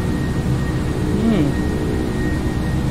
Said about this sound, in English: Yeah, this sounds like actually one of the planes that I used to fly in when I used to go to my eye appointments in Riyadh.